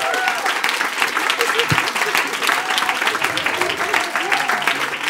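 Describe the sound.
A crowd applauds steadily before the first part of a long-awaited performance by a singer and her seven female singers. It is a dense wash of many hands clapping at an even level for several seconds, with faint voices and cheers mixed in beneath the noise.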